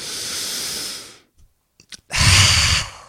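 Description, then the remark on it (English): A long, hissing breath in, a short pause with faint mouth clicks, then a loud, forceful open-mouthed exhale with a rough, raspy edge and the tongue all the way out, a lion's breath done in the yoga lion's pose. “Now, do we need to be sitting or standing in any certain position, or anything goes with lion's pose as long as we're doing the breath correctly?”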